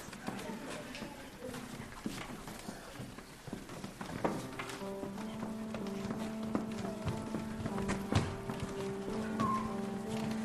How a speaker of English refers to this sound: This riding is tiring. I prefer riding ships, but I guess horses are okay.